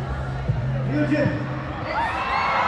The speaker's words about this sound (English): I want to go where the screaming people are. Let's go over there.